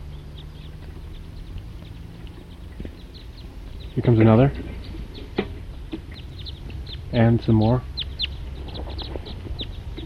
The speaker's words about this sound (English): For recording, I'm now at the trailhead of the Cataract Trail. And that was a wild bird flying over. It's about 10:15 now. And there appear to be a lot of birds just flying over this general area.